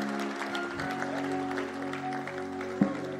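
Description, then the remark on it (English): A church audience gives a clap offering as people go back to their seats, clapping steadily, many hands blending into a dense, continuous patter with a few sharper claps standing out; a sustained tone hums underneath throughout. “Can we give a powerful clap offering as you go back to your seats?”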